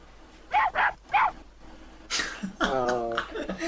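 Three short, sharp dog barks come in quick succession, fairly loud, followed by a rougher, longer vocal sound after a brief pause.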